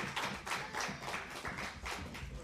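A small crowd claps together in a steady, dense patter of applause that carries on throughout, sounding somewhat distant and moderately quiet, with no one talking over it.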